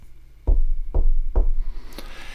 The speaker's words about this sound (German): Und jetzt zeige ich Ihnen einmal was. Was war denn das jetzt? Ich habe jetzt ganz, ganz, ganz leicht gegen den Mikrofonständer geklopft.